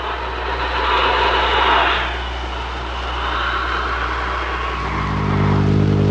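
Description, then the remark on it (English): An airplane engine roars loudly and continuously as the plane comes in to land in a clearing, a rough, full drone whose low humming pitch grows steadier and more distinct near the end. “We think Captain Sky is going to land here pretty soon in his wonderful Sabato plane.”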